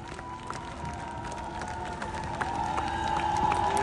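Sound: audience ovation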